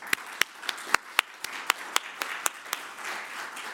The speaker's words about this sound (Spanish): Muy bien, muchas gracias a nuestros presentantes de la mañana de hoy y quisiera despedirlos, por favor, con un fuerte aplauso.